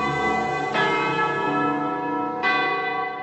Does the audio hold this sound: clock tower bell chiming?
yes